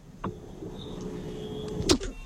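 A car's power window motor whirs steadily for about two seconds as the window is opened, ending with a soft clunk as the glass stops, with no talking.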